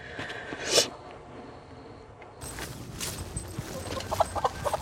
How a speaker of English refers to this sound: Hello, chickens.